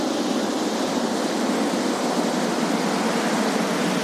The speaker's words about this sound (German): Wir wissen immerhin, hier auf der Seite ist das Wasser. Und das geht, das tönt so. Das könnte vielleicht sogar eine kleine Anlage sein. Eine Kläranlage, das tönt nach Wasser.